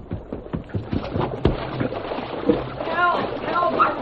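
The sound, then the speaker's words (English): Rushing water of a stream with a strong current and a series of sharp splashes at the start as the Lone Ranger plunges in above the boys in the water, then a steady churning flow with a faint voice calling out over it. “Although the Lone Ranger had entered the stream above the position of the boys in the water, he had to fight the strong current in order to keep from being carried past them.”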